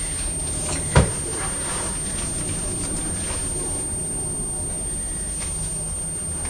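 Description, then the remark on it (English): An aeroplane drones overhead in a steady, broad roar that holds level throughout, broken once early on by a single sharp knock. No one speaks. “Can you hear that aeroplane?”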